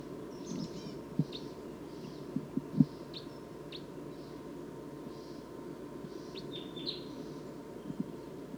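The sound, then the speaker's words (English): A wild bird and decoy birds call back and forth in short, high chirps and brief trills, scattered throughout over a steady low rumbling background, with no talking. “Wild bird's calling loud now, as well as the decoys.”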